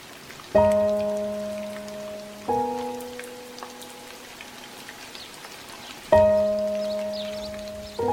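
Steady rain patters in the background while a deep bell rings out several times, each ringing, resonant strike slowly fading before the next.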